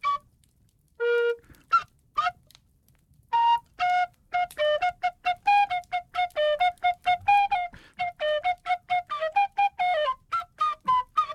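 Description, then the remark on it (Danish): A melody played on a whistle, a quick run of bright, clear notes with short breaks between phrases, fairly loud, with no talking over it. “hvad siger folk til, at du kaster en fløjte op til …?”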